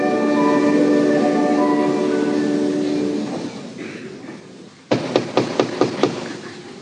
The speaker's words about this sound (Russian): Но дверь открыли, и вот кто-то стучит в ее комнату.